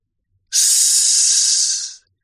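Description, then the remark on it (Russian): A single sustained hiss from a large python coiling around a man's leg, loud, lasting about a second and a half before tapering off, with no voices around it. “Шипит змея.”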